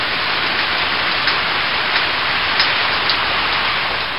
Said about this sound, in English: It is a cool, wet, rainy day outside.